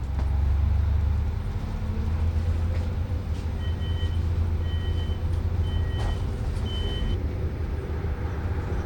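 Steady loud rumble of a moving local train heard from inside the carriage, travelling from Lem to Ringkøbing through the village of Velling, with deep engine drone and rattling, plus a faint repeating high tone chiming intermittently.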